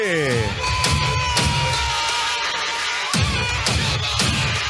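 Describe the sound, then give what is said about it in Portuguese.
Race driver Lucas de Grassi yells in jubilant triumph after winning his first race of the year: loud, strained shouts with sliding pitch repeated over nearly five seconds, set against a steady rough noise. “É o grito da vitória, é o grito de alívio, é o grito da felicidade de Lucas de Grassi, que vence pela primeira vez do ano!”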